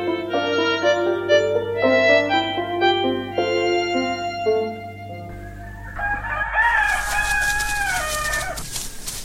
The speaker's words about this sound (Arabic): أنا رسالتي إلى القاضي وأشكو من الديك ومن صوته المزعج.